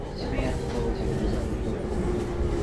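Steady rumbling train interior ambience, a continuous low-frequency drone with faint mechanical rattles and a soft tonal hum, with no clear talking.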